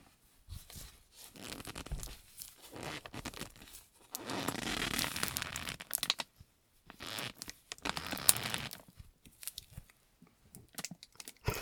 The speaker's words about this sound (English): I'm using a jacket for sleeping bag sound effects.